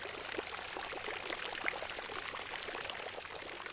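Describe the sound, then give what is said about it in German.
Steady splashing of a fountain in Munich, a continuous bright patter of falling and pouring water with small droplet bursts, evenly loud throughout, with no voices. “Alle haben's ihre eigene Geschichte und sie plätschern auch in ihrer eigenen Brunnensprache.”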